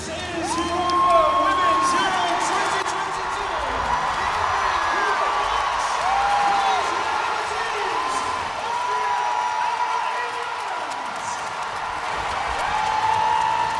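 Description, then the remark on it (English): A huge crowd at a football stadium roars steadily for the whole stretch before a match, a dense wall of cheering and shouting with occasional whoops and rising calls cutting through the noise. “Listen to that roar.”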